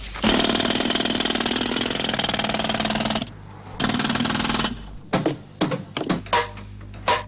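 A loud jackhammer pounds at a construction site on a hot day above 32 °C, in a rapid, steady burst for about three seconds, stops briefly, then hammers again before giving way to scattered clanks and knocks of construction work.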